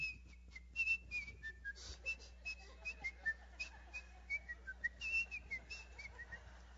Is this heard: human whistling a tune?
yes